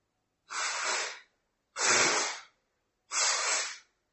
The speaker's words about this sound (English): And again, if you like, you can take 3 slow, deep breaths in order to complete the process of preparing the body.